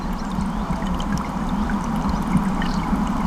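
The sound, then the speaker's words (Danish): A broad, deep, dark-green river, the Gudenå, flowing slowly and heavily through valleys and forest between steep, dark, densely wooded hills in late afternoon, a calm stretch; a continuous low rushing wash with soft gurgles, unbroken, with no voices. “Den flyder tungt fremad ind gennem dalene og skoven. Det er et roligt stryg.”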